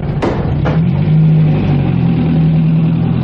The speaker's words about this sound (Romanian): Dă drumul motorului și la drum, haide!